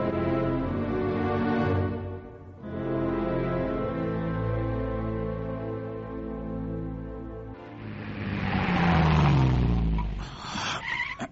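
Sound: car engine accelerating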